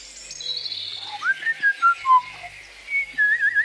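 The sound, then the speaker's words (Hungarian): A bright, cheerful whistled tune of short rising and falling notes, mid-to-high pitched, whistled by a cheered-up horse looking around on a clear, bright morning after rain, played alone over a faint hiss with no talking. “Az esővel együtt tovatűnt a tegnap esti nyomasztó levegő is, a ló megvidámodva, fütyűrészve nézett körül.”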